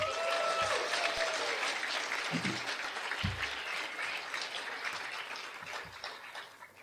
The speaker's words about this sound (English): Please give Brett a round of applause.